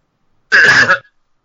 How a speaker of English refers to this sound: What was that? Is that a cough? I think so. I think he didn't get a chance to mute it in time. Yeah, it didn't mute us in time. I apologize.